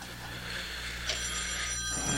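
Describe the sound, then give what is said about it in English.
A telephone rings steadily through the whole stretch, a continuous buzzing ring that sounds muffled, as if heard down a phone line, over a low background hum with no voices. “It's ringing.”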